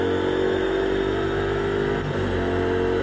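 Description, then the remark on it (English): A car engine revs steadily and loudly as the driver goes through the old hairpin on the accelerator and on through what was Starkey's Bridge on a sunny day, its tone holding strong through a brief gear-change dip before climbing again as the vehicle accelerates. “Through the old hairpin and on the accelerator and through what was Starkey's Bridge.”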